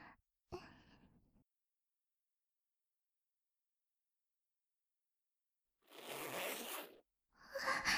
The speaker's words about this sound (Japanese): チャックの音かな。そっか、男の子って女の子と違ってチャック開けておちんちん出すんだっけ。